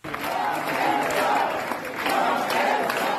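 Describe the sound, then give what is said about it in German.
A large crowd at the Vuelta cycling race applauds and cheers, not for the riders but for people who tried to make riders crash, in a dense, steady roar that stays loud and continuous throughout, with mixed voices and clapping blending together. “Der Beifall gilt vielmehr jenen, die Vuelta-Fahrer massenhaft zu Fall bringen wollten.”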